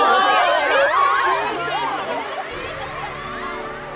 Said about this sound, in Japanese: それでは皆さん、救世主様にもう一度大きな声援と拍手を。